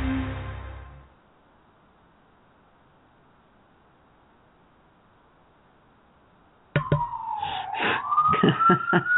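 emergency vehicle siren

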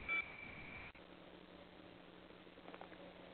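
school bell ringing

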